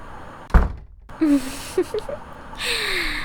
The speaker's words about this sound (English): What are you doing? Why are you closing the door?